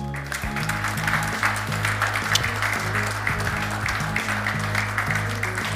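Sustained, dense applause from an audience, a steady wash of many clapping hands holding at an even loudness, with music and a low bass line playing underneath throughout.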